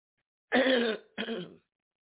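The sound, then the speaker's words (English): Two harsh bursts of coughing, almost like a forceful throat clearing, the first slightly longer than the second, with no talking around them; a person coughs on cue when told to. “When I say go, I want you to cough.”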